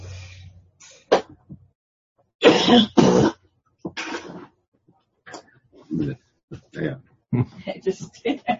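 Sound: coughing fit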